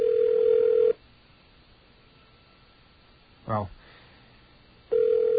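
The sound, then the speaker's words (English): A telephone ringback tone sounds twice on an unanswered late-night call, a steady electronic burst at the start and again near the end, with a brief spoken word in the quiet gap between. “be assured that anybody within the sound of that ring is wearing their hat on the right way.”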